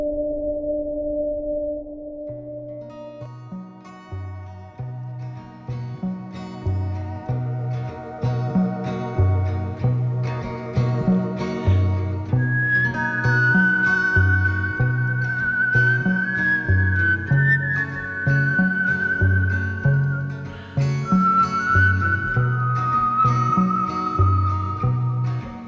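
A clear, sustained whistled melody by an Australian professional whistler glides over a full instrumental backing with steady bass notes and rhythmic chords, the whistling rising higher midway and staying prominent throughout.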